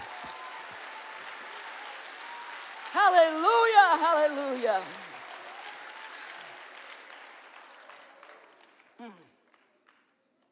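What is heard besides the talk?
audience applause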